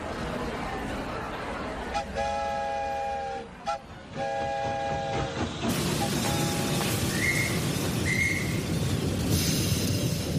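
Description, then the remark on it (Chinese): A train carrying Abraham Lincoln's coffin passes slowly along a railway line lined with crowds, rumbling steadily as its steam whistle sounds two long blasts, followed by a continuous noisy clatter and a couple of faint, higher tones. “每座城市的铁路沿线都挤满了人，他们默默地站在那里，眼里面含着泪水，看着火车缓缓驶过。”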